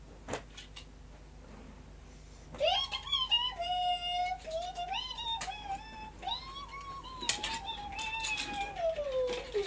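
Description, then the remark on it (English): A female cat gives a long, drawn-out, wavering meow that rises and falls in pitch, followed by squeaky chirps, after a couple of quiet seconds with faint clicks. “You're a very squeaky girl today.”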